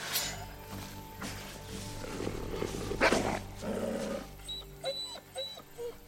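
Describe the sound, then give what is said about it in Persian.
A wounded wolf lying on the ground gives a low, rumbling growl that swells and fades in rough bursts, fairly loud, followed by a few short, higher whining cries toward the end. “میرسه به حیوان زخمی که روی زمین افتاده.”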